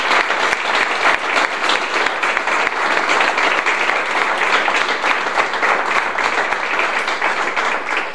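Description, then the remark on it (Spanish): An audience applauds steadily, a dense, sustained wash of many hands clapping at a constant, fairly loud level throughout, with no voices standing out. “Para él voy a pedir yo un aplauso, porque siempre estuvo al lado de mi marido.”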